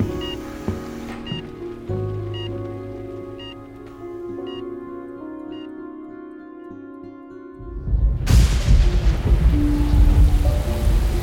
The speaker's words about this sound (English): It's getting nasty out here. The streets are starting to flood. Ditch your shoes and roll up your jeans. We're gonna have to walk. If this storm gets any worse, we might have to swim for it.